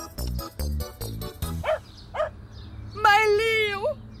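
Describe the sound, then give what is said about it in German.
A dog barks in a quick series of four or five short, sharp barks, followed by a couple of high yips and a longer, wavering whine, fairly loud. “mein bravs Hundi.”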